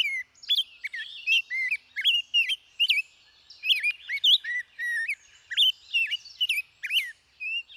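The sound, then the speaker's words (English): A Nashville warbler chirps in quick, high, bright notes, a steady stream of short repeated calls with brief pauses, clear with no voices. “Nearly all of North America's smaller birds, from this warbler to chickadees to thrushes, raise their young on insects, especially insect larvae, like this juicy caterpillar.”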